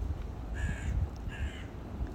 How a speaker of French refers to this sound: J'entends une corneille à l'instant, comme un signe.